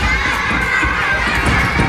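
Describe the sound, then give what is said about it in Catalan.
A crowd of children shouting and yelling over one another, steady and dense, with the scuffle of running feet as they run down the school stairs into the schoolyard toward a fallen pine tree, at a school in view of the Collserola tower. “Tot de criatures baixen corrent les escales del centre, surten al pati i van directes cap al pi.”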